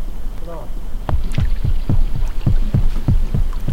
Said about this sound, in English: Rountree captures these haddock breeding as boats buzz in the background.